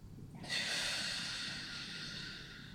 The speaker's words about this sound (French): Inspirez, suspendez votre souffle, contractez bien votre dos, votre poitrine, votre ventre. Et soufflez fort pour expulser toutes vos émotions négatives, toutes vos peurs.